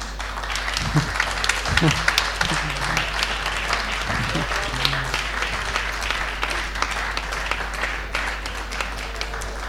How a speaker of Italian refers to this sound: Quindi la direzione generale di questa divisione non ci sono io, ma c'è una persona che adesso invito qui sul palco a sedersi con noi, e lo accoglierei con un applauso e non vi dico il nome.